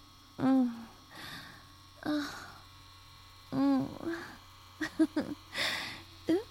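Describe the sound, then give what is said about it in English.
A vibrating sex toy drones with a steady, low electric buzz that runs unbroken throughout as it is held against a penis, while a voice makes short, intermittent vocal sounds over it. “And enjoy it buzzing your cock all over.”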